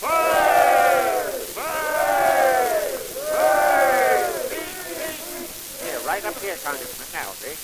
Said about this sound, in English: Here comes the train. There he is. Three cheers for Congressman Pilkin. Hip, hip.